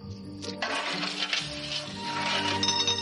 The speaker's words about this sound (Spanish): Coge unas monedas y las lanza por una chimenea.